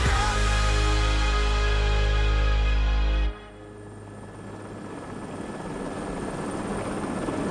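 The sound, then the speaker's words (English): A Russian military helicopter engine roars loud with a steady, throbbing drone as it approaches the sharp ridges of the Kharivshyn Mountains on July 27, 2000, then abruptly drops to a softer, rushing hum that slowly swells again. “Beth Rodden stares out the window of a Russian military helicopter as they approach the sharp ridges of the Kharivshyn Mountains.”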